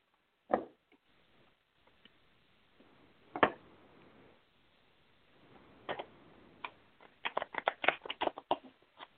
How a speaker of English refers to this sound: Okay, I need to shuffle the cards one more time. I'm getting the same card. Sorry. One second.